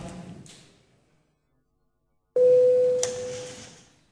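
A parliamentary voting bell sounds abruptly after a brief hush, calling a first-reading vote on a bill on the status of Second World War participants, a steady mid-pitched electronic tone held for under a second over a wash of room noise that lingers afterward.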